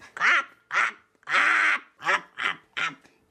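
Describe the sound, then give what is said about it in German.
A raven, Blackie, squawks loudly, six harsh, rasping caws in a quick, uneven series with brief gaps, one drawn out longer than the rest. “Ich bin Blackie, der Rabe.”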